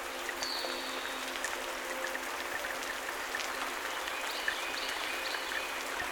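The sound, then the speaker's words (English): Steady rain falls continuously outside the porch of a small cottage in a forest, a dense hiss of droplets pattering on surfaces, even and unbroken throughout with no voices. “right now, I'm standing on the porch of my little cottage here in Sparkle Forest, listening to the rain.”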